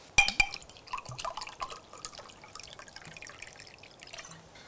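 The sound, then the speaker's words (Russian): A couple of sharp glassy clinks, then liquid pours and splashes into a glass in a steady, gurgling trickle for several seconds, fairly quiet. “Наливай.”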